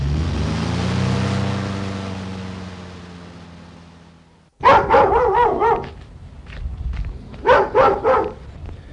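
A low engine hum fades out over several seconds as a vehicle arrives in Ursel, a small village near Konolfingen, then a dog barks loudly in two quick bursts of several sharp barks each, with no one talking.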